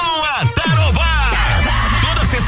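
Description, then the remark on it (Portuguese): A crew of construction workers on a building site, taking a break during a Tarobá FM barbecue at the site, lets out a loud group shout, several male voices yelling together with rising and falling pitch, sustained for about two seconds without any clear words. “Tá na hora de dar aquela pausa e soltar o grito.”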